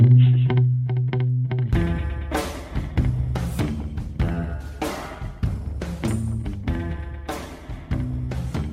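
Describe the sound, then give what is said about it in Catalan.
Moody, mysterious music plays on its own, opening with sparse low pulsing notes before a heavy, driving beat of drums and distorted bass kicks in and stays loud throughout. “Farem amb música misteriosa parlar de temes negres.”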